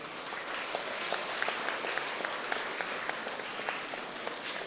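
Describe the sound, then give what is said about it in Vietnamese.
A crowd of young children claps steadily in thanks for a donation of 1,000 hats, a dense patter of many small hands with brief sharper claps poking through, sustained evenly for several seconds without voices. “Các cháu hãy cho một tràng vỗ tay tán lương.”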